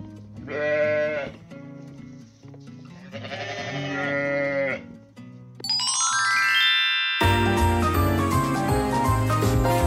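sheep bleating

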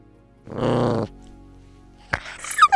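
dog grunting

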